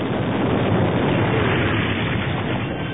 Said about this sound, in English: Suddenly, a titanic explosion shredded both the hover scout and the repulsor lift containing the cores. Shrapnel sprayed throughout the loading dock area.